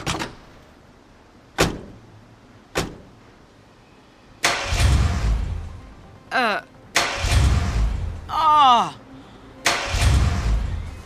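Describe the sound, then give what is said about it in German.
A few sharp clicks, then three separate bursts of a car engine cranking and sputtering without catching, with brief whirring sweeps in the gaps between attempts. “Der Motor springt nicht an.”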